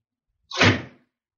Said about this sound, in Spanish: Espera, espera un momento que cierro la puerta.